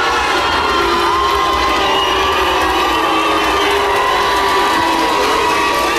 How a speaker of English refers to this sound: there's nothing but cheers for you when those doors open.